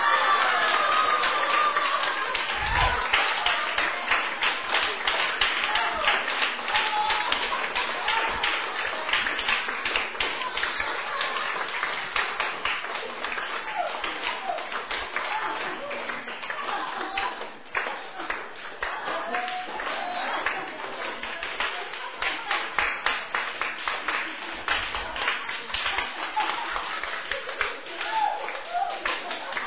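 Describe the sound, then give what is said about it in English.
An audience claps steadily and continuously for about half a minute, a dense, loud wash of overlapping handclaps with voices mixed in underneath. “Okay, let's stop clapping and just drink.”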